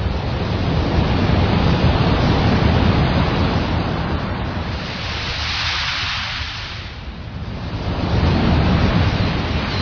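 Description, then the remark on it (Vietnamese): Steady surf of the vast East Sea washes against the shore, a continuous broad rush of breaking waves that swells and eases slightly, with a soft dip midway before building again, and no voices. “Trước mặt anh là biển đông bao la bát ngát, từng đợt sóng nối tiếp nhau vỗ vào bờ ì oạp.”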